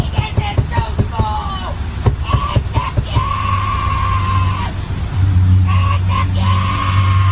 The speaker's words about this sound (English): This crazy lady is sitting in her car, windows up, screaming on the phone. I guess she's having a problem with her boyfriend.